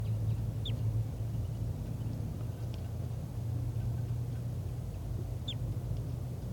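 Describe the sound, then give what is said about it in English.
Two brief, high, downward-sweeping flight calls of a wild bird sound several seconds apart, with a fainter chip between them, over a steady low mechanical rumble. No one speaks. “And there are calls coming from over there. I'm not sure which bird is giving flight calls.”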